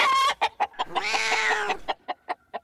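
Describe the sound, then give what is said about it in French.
An angry mother hen clucks: a few sharp clucks, a loud drawn-out squawk, then a quick run of short, evenly spaced clucks. No voices. “Je ne reste jamais longtemps sur place, car je sais que la maman poule, très en colère, pourrait me piquer le derrière.”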